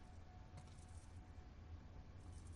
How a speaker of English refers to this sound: Try those keys? Oh, yeah.